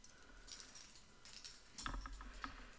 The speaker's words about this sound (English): Take the keys to the handcuffs. Good. Now cuff me to my chair.